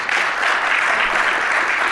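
A steady, dense wash of applause from many hands, sustained at an even loudness for the full two seconds with no pauses or voices breaking through.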